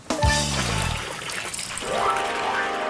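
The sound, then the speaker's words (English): A bucket of soap poured steadily into a container already holding ten buckets of water, to make the water stretchy for bubbles: a continuous gurgling splash with a rising, hollow tone as it fills, lasting the full few seconds with no talking. “Now there are already 10 buckets of water in here, so we add one bucket of soap.”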